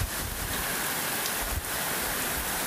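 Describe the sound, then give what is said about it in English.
Heavy rain from a tropical storm pours down in a steady, dense hiss that fills the whole moment, loud, with a faint rushing of gusty wind mixed in and no voices. “Bringing quite a bit of rain.”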